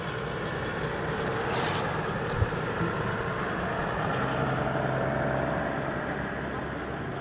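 A dense, steady rumble of passing cars picked up by a contact microphone sunk into the joints of cobblestone paving, with muffled low-end vibration, gentle swells in loudness and one brief sharp knock partway through.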